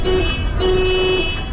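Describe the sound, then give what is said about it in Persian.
A car horn honks twice, a short blast followed by a longer steady one, its bright tone sounding over a continuous low engine rumble; the horn is sounded to get a child's attention. “نی آرن میکنم، شاید بشنوه.”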